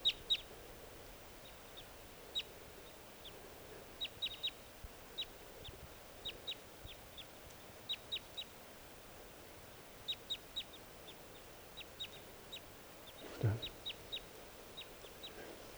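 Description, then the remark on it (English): Newly captive decoy birds call in short, high, sharp notes, repeated irregularly in quick clusters across a steady low background hiss, with one brief louder rushing burst near the end. “Okay, the new birds are calling.”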